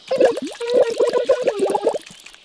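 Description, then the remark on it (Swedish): Wet slurping of food, a rapid string of sucking, gurgling pulls lasting a couple of seconds with no talking. “Nu får det räcka med snörplande för nu.”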